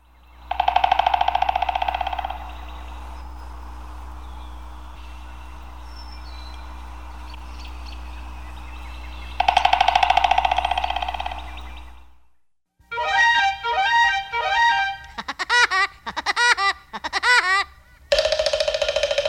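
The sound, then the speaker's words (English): A steady, droning tone gives way to a quick series of sharp, chirping woodpecker calls in loud bursts with brief gaps between them. No pecking is clearly audible. “Woodpeckers have a strong chisel-like beak, which can cut into the bark and wood of trees in search of food.”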